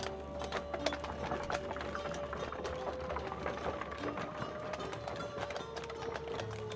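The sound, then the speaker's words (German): Steady clip-clopping of horse hooves mixed with the rattle and creak of a caravan of rolling carriages, with soldiers riding on horses alongside, a continuous busy clatter throughout with a faint low hum beneath. “Lothar ritt mit weiteren Soldaten auf Pferden nebenher.”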